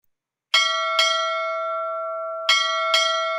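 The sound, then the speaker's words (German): A small bell rings out in two quick pairs of strikes, each bright metallic tone lingering and humming between hits, with no voices over it. “Glück kommt von Glöckle.”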